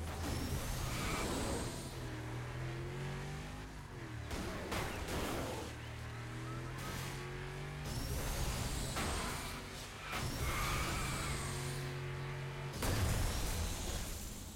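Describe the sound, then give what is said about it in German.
Video game racing sounds: loud, steady engine roar with several sharp crunching crashes of cars being rammed, bursting through every couple of seconds, with no voices. “Du kannst ja bei Burnout Revenge die Autos von hinten ruhig reinfahren, ne? Allen Seiten reinfahren. Hauptsache, sie fliegen weg.”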